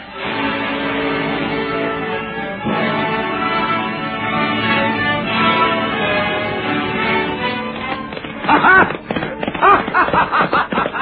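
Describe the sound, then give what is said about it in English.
A horse's hooves break into a rapid gallop near the end, the rhythmic beats coming fast and loud after a stretch of dense, muffled commotion, sounding like a rider charging off. “He's heading for his horse. We'll never catch him.”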